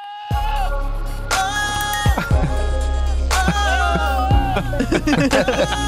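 A goat bleats in long, wavering cries that seem to match the pitch of a pop song playing along with a steady beat and bass, the animal's calls loud over the music.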